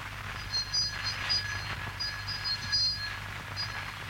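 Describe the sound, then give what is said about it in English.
The doorbell of a large house rings in several short, shrill bursts separated by pauses, over a steady low hum with no one speaking. “Oh, here's the bell. Shall I ring it?”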